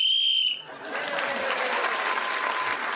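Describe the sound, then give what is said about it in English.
A short, shrill whistle blast, blown to end a round of a panel game, sounds loudly at the start, then gives way to a burst of sustained audience applause that fills the rest of the moment. “So, Paul Merton, speaking as the whistle went.”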